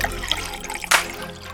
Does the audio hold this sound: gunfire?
no